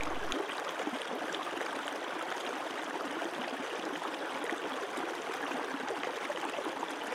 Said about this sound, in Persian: اجازه بده صدای این رودخانه ذهن و قلبت رو نوازش کنه. اجازه بده هر فکری که به ذهنت خطور میکنه مثل برگ کوچکی باشه که روی آب میفته و این آب اون رو با خودش میبره. تو دوباره به صدای آب گوش بده.